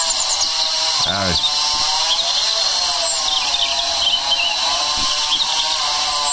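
A chainsaw whines continuously and fairly loudly throughout, its high-pitched engine drone wavering slightly in pitch as it cuts back tree branches in Belgrade on a Sunday at 7 in the morning. No one speaks.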